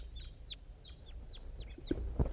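A wild bird coming around a freshly set-up bird net calls in a quick series of about eight short, high, downward-sliding chirps, while a bird called 5-3 calls loudly, moderately loud over a steady low rumble, with a couple of duller thumps near the end.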